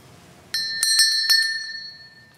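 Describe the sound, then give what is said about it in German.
Cowbells struck about four times in quick, uneven succession in a church, each bright metallic ring overlapping and slowly fading. Fairly loud, with no voices. “Diese Kuhglocken sind ein Geschenk einer Tante, die gern in Bayern und Österreich Urlaub machte.”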